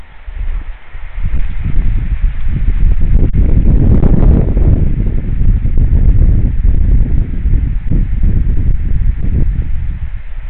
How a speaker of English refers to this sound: It's going to be quite hard to land in this rain. Let's listen to the wind, rain, and just goddamn wet hiss that is all around me once more before I light this.